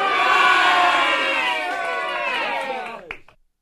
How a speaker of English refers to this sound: John was met with a big surprise, as the crowd shouted in unison